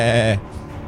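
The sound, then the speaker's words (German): A single short, nasal goat bleat with a wavering tremble, loud, cutting off after a moment into quiet background. “Die Ziege beteiligt sich erneut bei dem Gespräch mit einem”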